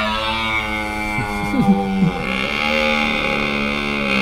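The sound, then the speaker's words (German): A deep, sustained stag roar bellows continuously for several seconds, rich and droning with a brief wavering dip in pitch midway, loud, with no talking. “Heute ist der Hirsch drin. Ja. Unser Pendant zu diesem Löwen, der bei Filmen vorne brüllt.”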